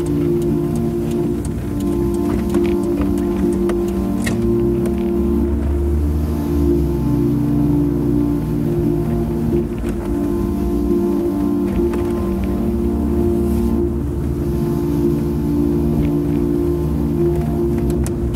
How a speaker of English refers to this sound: we're already driving, already past MBZ on the highway, we're already vying there, f***ing cruising on the highway